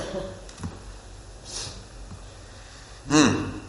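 A person drinking water: soft, quiet sips and swallows with small breaths in between, then a louder, breathy gasp near the end. No one speaks.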